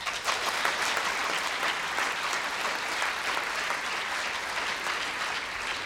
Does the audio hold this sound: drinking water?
no